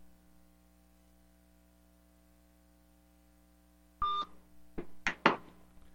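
After about four seconds of quiet hum, a short run of dialing tones from an outgoing call: one steady beep, then three or four quick clipped tones close together, fairly loud and near.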